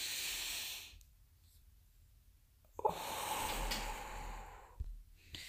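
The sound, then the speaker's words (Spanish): Two long, breathy airflow sounds separated by a quiet pause, a slow deep inhale followed by a full exhale during a breathing exercise, with no talking. “Que tus pulmones se llenen de aire.”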